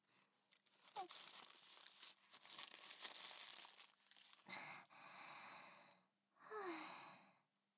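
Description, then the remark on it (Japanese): A paper napkin crinkles and crumples in a steady rustling stretch as it is used for wiping, followed by two louder bursts of scrunching with a soft breathy exhale between them. “あ、この紙で拭えばいいのですね。”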